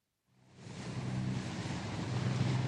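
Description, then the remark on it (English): Sea waves fade in from silence and settle into a steady, rushing wash of surf, continuous, with a low rumbling undertone and no voices. “You can see 4 dolphins playing in the sea.”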